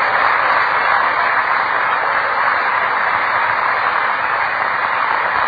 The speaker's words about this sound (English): That's pretty weak applause for that. I thought that was really better deserving of applause.